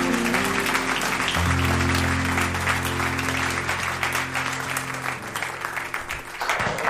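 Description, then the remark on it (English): A church audience claps their hands for God in the morning, in sustained, dense applause, loud and steady over a low sustained organ chord, tapering slightly near the end. “Give him a hand clap this morning.”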